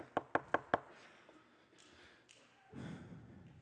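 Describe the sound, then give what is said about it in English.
Four quick, evenly spaced sharp knocks on a door, followed by a stretch of quiet room noise and a soft low rumble near the end. “So at the end of your life, you're standing at the door, knocking on heaven.”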